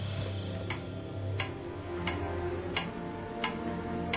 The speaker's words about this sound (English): It's a clock. I found it last night. It was ticking. Must be one of them ticking clocks, eh? It was hidden in a secret room.